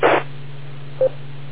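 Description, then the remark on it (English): A radio repeater's identification tone: a quick burst of static, then a low steady hum and one short, clean beep near the end, fairly quiet and with no voices. “for ID, as the tones just went off.”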